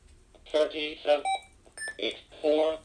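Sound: alarm clock beeping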